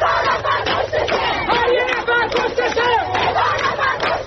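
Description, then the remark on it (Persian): A large crowd of university students in Damavand, Iran, chants the protest slogan 'For every one killed, a thousand stand behind them' in unison, voices loud and steady with a rhythmic, pulsing cadence of repeated syllables throughout. “اینجاست که آدم یاد شعاری میفته که بچه های دانشجو همین دیروز تو دماوند میدادن: هر یه نفر کشته شد.”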